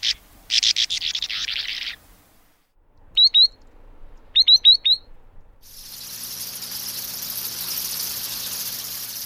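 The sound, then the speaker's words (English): Birds, including a bank swallow, call in quick high chirps in spring in Virginia, first a pair, then a rapid run of four, set between a buzzing insect-like chorus and a steady rushing hiss, with no talking. “If you guessed stormy weather, frogs, birds, and bats, you're right.”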